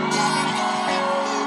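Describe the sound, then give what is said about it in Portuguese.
A large concert crowd in Recife shouts and cheers in a sustained, loud roar that swells in almost at once and holds steady, with a musical hum running underneath. “Quem tá feliz, joga a mão e dá um grito.”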